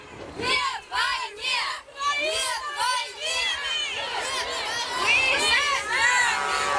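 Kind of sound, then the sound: crowd, crowd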